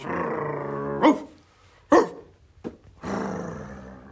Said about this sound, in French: Seul des aboiements ne pouvait sortir de sa gueule.